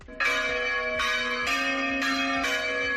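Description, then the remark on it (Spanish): Church bells across the whole region of Extremadura, Spain, peal together in unison at one o'clock midday in a dense, overlapping clang, with strikes recurring roughly every half second and a bright, sustained ringing hum between them, rung as a protest against depopulation and abandonment. “Las campanas de toda la región repicarán al unísono como representación del clamor popular contra la despoblación y el abandono.”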